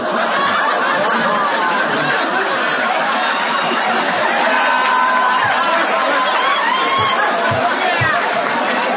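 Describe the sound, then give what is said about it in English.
An audience claps amid a steady wash of laughter and chatter, a dense, continuous crowd noise that holds for several seconds without letting up. “What in the hell are you clapping for?”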